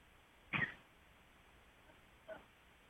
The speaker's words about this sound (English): Oh, she's coughing.